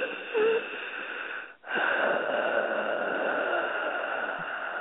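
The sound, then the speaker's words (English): A voice imitates a man's heavy, labored breathing: a long raspy wheezing inhale and exhale, broken by a brief pause, then continuing in a strained, breathy rasp. “He goes, "Yeah, yeah, labored breathing."”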